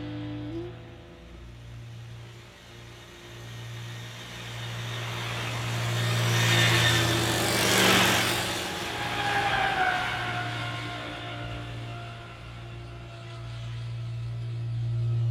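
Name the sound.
road traffic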